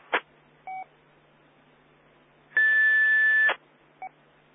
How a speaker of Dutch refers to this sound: Ja, er was een fluittoontje.